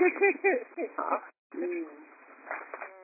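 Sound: pet bird cooing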